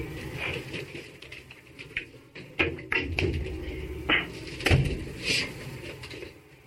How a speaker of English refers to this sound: I'm going to shut this door. Hang on.